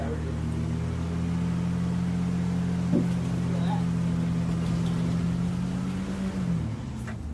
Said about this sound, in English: All right, there's a car coming up behind us, so just.